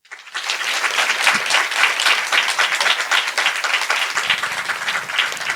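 Steady audience applause for the person who asked about East Westphalian dialect, a dense wash of many hands clapping at a fairly loud, even level that holds throughout after a quick start, with no voices on top.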